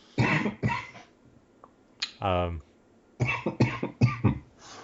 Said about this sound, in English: I muted all my coughing, No, but you didn't.